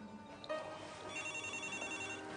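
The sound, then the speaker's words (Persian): A telephone rings with an electronic ringtone, a steady tonal warble that starts after a brief pause and continues to the end, moderately quiet and heard alone without talking. “مامان تلفن رو میشه جواب بدین؟”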